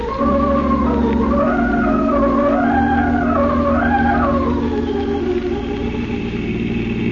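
A car engine roars steadily at high speed with the accelerator pressed to the floor, its droning pitch swelling and dipping in waves as it strains, loud and continuous throughout with no voices.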